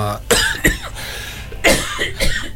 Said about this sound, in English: Here comes the coughing fit now. Maybe we should put some tunes in or some cough sweets.